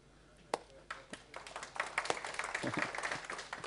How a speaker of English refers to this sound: Nice stuff. I'll slow clap you guys in.